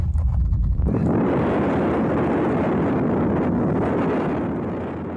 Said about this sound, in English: We could see the police helicopter, and I mean, they're making tight turns, which means there's something serious going down. It's like they're like in a combat zone. They're like they're tight. They're turning real tight. Helicopter.